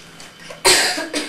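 human body sound, coughing

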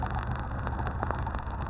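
vehicle, boat engine running

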